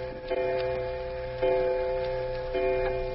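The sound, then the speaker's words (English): A clock ticks steadily at a moderate pace, its faint clicks sitting over a sustained, humming musical drone that swells slightly every second or so. “She could see the clock clear across the room.”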